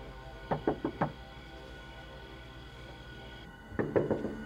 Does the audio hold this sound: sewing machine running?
no